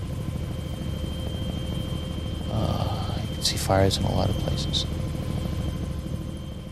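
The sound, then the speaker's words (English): A helicopter's steady engine drone and turbine whine runs through the whole recording, loud, with a man speaking briefly over it in the middle, as the helicopter lifts off with its back gate down and heads out over Saigon in the dark. “Incredible, like a turbine kind of whining sound.”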